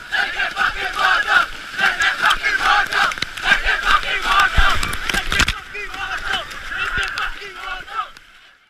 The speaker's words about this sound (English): where the children will chant and then chant some more as they dive through the waves of the sea, like in this audio from 2016.